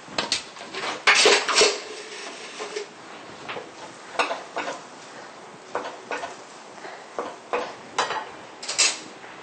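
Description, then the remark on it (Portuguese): A utensil clinks and scrapes against a metal pot as thick, hot truffle mixture is scooped out and poured into a blender jar, in a string of irregular clanks with brief pauses. “Vou provar e depois jogar no liquidificador para ela ficar toda homogênea, né?”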